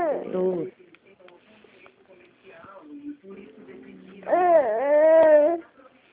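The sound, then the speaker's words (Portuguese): A small child cries in two bursts, a short whimper at the start and a louder, drawn-out wail near the end, with softer fussy sounds in between. “Bonitinho, chorando.”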